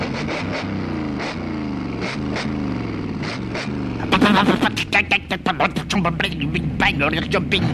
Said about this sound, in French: La vieille moto pétaradait dans la nuit noire.